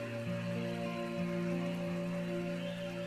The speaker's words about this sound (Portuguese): E tá chovendo ali no seu oásis interior, assim como tá chovendo aqui em Piracicaba agora, uma chuva gostosa.